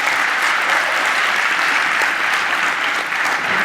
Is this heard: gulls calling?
no